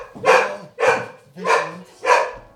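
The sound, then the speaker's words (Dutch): A dog barks four times in a steady, evenly spaced rhythm, each bark full, with no voices in between. “Kijk, en die hond hebben jullie ook.”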